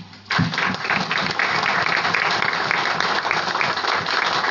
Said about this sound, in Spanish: No me aplaudan mucho porque me voy a incorporar al selecto, aunque estoy grande para la casa, bueno, ser un aficionado.